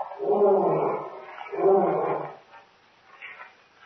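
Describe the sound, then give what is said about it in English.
A lion roars twice in long, rumbling bursts, loud, followed by a few fainter, trailing grunts as the sound dies away. “Lion? Yes. Lion here?”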